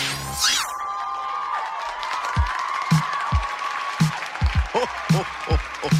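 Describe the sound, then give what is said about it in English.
A crowd at a Christmas show cheers and applauds loudly for several seconds, with sharp whistles rising above the dense clapping and occasional low thumps underneath. “All right, you people, get ready to cheer for the Christmas show at the Burning Spear.”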